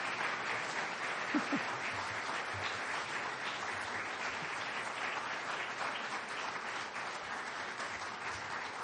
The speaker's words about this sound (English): And the applause should keep going for a long time.